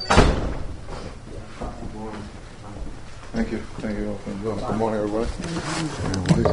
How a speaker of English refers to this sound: Front door is locked. No, I'm going to unlock the front door.